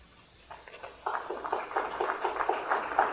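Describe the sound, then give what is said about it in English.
An audience breaks into applause after a poetry reading, a few scattered claps at first, then swelling after a second into dense, steady clapping that stays fairly loud to the end, with no voices. “Wow, this is great, getting applause after poems.”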